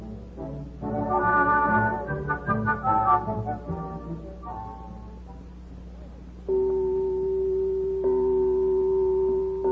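A death gong is struck twice in a great audience chamber as Marco Polo and his companions are led before Kublai Khan, each blow swelling into a loud, steady, low humming tone that rings on without fading, following a stretch of brighter tonal notes.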